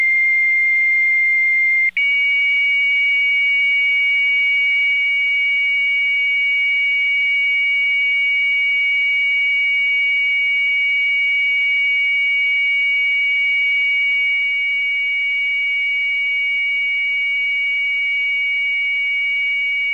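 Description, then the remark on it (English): A high-speed computer modem gives a loud, steady, high-pitched connection tone that drones without a break for about twenty seconds, stepping up slightly in pitch near the start, with a faint low hum beneath. “Yes, the high-speed computer modem.”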